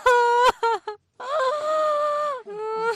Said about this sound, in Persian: حال گریه نکو، با گریانی چیز نمیشه، هیچ فایده نداره.